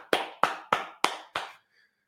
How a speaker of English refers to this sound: I didn't clap there. You notice you only would have heard one clap.